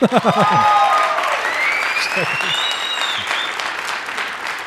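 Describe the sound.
An audience claps steadily for about five seconds, a dense, even roar of applause, with a few shouted voices and rising whistles cutting through near the start.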